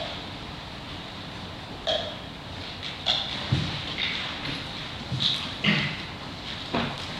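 Horse hooves clop in a loose, irregular series of hollow knocks, spaced a second or so apart, over a steady background hiss, with no one speaking.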